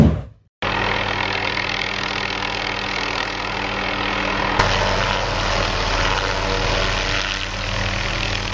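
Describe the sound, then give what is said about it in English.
A helicopter's engine and rotors roar loudly and steadily, a dense continuous whir with a low droning hum, as Larry Page lands a helicopter at Foo Camp in 2007. “And I saw this when an acquaintance of mine, Larry Page, landed at Foo Camp in a helicopter.”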